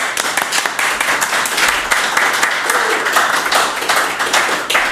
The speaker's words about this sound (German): Und wir samplen das Klatschen noch, dann hört sich das nach 600 Mann an.